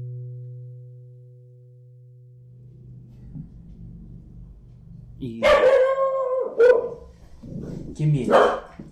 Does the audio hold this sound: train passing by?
no